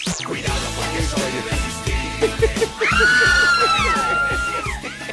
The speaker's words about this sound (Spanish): Mi querido Pontón, está sonando al aire gritos grabados de la jauría. La jauría hoy, pues es en época de pandemia. Voy a pedir que quite los gritos grabados y que realmente sea la jauría que está en cabina la que vitorea a Pontón.